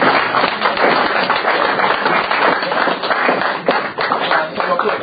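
A crowd applauds steadily, a dense rattle of many hands clapping at a constant, fairly loud level for the whole stretch, with scattered sharper claps standing out from the wash.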